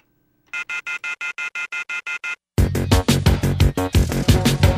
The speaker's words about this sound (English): The telephone keeps ringing, so I ripped it off the wall.